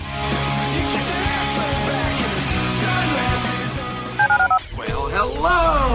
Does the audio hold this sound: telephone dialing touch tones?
yes